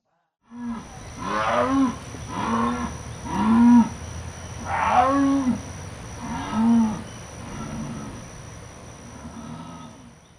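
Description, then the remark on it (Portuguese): A jaguar roars in a series of about eight deep, hoarse grunts, steadily spaced and loud, each a rough sawing pulse, with no voices present. “Imagina vocês escutarem um rugido de uma onça no meio da floresta.”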